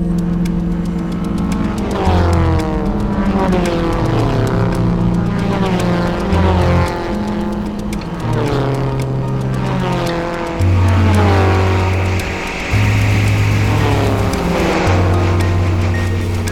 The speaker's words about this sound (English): Here is another example of the Doppler effect. Racing cars.